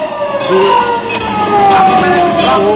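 A fire truck on its way to a fire, its siren wailing steadily with rising and falling tones over a rumbling engine, loud, with traffic noise around it.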